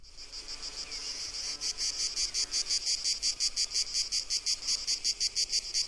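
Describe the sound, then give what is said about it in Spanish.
A cicada stridulates loudly in pine trees, a harsh, high buzzing that swells into a steady train of rapid rhythmic pulses, with no voices. “En los árboles, en los pinos, la chicharra sube y empieza a hacer su sonido.”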